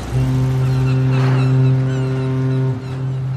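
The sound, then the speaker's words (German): A ferry's horn sounds one long, steady, deep blast with layered harmonics for nearly three seconds, over a low engine rumble and some splashy noise, then cuts off. “Denn ziemlich flott geht es in den Bauch eines Schiffes. Das Schiff ist eine Fähre.”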